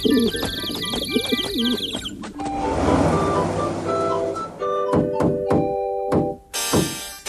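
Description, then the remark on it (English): Pigeons coo in a loud, warbling chorus, mixed with clattering thumps and a burst of flapping commotion, then a few sharp knocks as the cooing trails off. “I guess I ought to be grateful there aren't any pigeons in here.”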